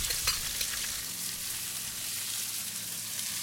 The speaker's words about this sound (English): And then this just becomes a quick pan fry in the extra virgin olive oil. And you just want to cook your vegetables until lightly browned.